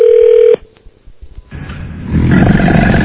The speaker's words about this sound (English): Is that it? What's the new ring on my phone? That is loud. So much clearer. I'd hate like to hear that in a movie theater.